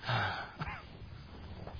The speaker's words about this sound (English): You can tell I'm breathing, right?